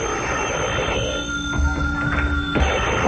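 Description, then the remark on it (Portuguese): A telephone rings at a judicial police department with a steady electronic trill, fairly loud, set against a noisy background hum with a couple of low thumps. “O telefone, né?”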